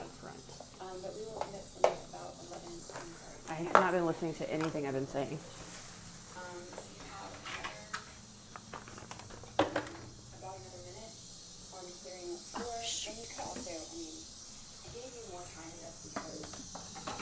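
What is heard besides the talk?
toilet flushing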